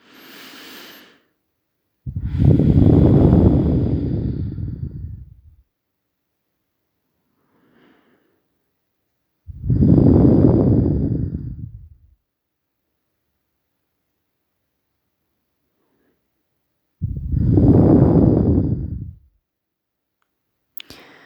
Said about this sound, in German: Und schnauf noch mal ein paar Mal tief in deinen Bauch runter.